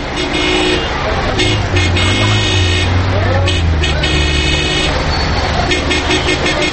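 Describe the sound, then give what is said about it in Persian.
Busy street traffic rumbles with engine drone while car horns honk repeatedly in short overlapping bursts, with indistinct voices mixed into the loud, continuous din, as a taxi is hailed. “تکسی این طرف گوشکو، این طرف.”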